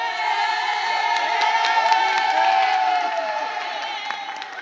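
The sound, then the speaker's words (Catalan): A group of women, students of a class, shout a greeting together in a loud, energetic burst of cheering, sustained for several seconds with overlapping high-pitched whoops, lively. “Feu-me un crit de salutació amb aquesta energia.”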